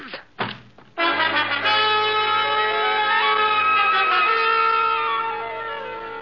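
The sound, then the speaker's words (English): A couple of quick, dull thumps as Scarlatti's gun strikes a head give way to a loud, sustained ringing tone of layered bell-like pitches that slowly waver and fade slightly. “I felt a lump on my head Scarlatti's gun had made.”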